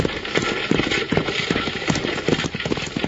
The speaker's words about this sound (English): You can't do that! These horses are running away!